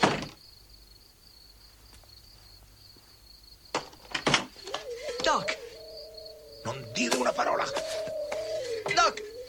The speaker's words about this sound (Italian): Lasciata la casa della madre, Marty finalmente riesce a bussare alla porta del Doc. Ah, piano, del Doc però del 1955.